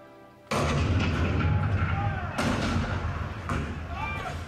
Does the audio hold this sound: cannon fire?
yes